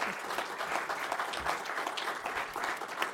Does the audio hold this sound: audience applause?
yes